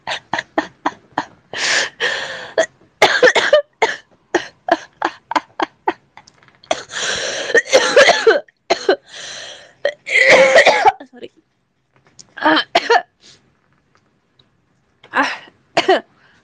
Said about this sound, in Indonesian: Tapi udah begini batuknya.